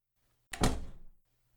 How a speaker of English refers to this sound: I'll close the door behind you.